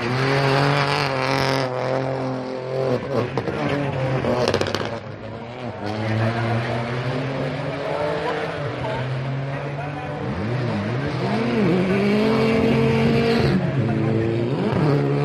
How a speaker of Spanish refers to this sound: Bueno, la de rally es que me he pateado yo desde pequeño a pie de tramo, y había que hacer un poco de rally de Madrid escuchando sonidos como este del coche de Frente Arena.